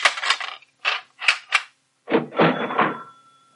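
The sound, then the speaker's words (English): A shop door bolt slides shut just after 6: four quick metallic rattles, then a pause and two heavier clanks that leave a faint ringing tone fading out. No voices. “I'll bolt the door, shall I?”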